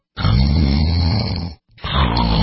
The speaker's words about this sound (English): Is this what your bedroom sounds like at night? What if you could stop the snoring instantly without nose strips, mouth guards, or a procedure?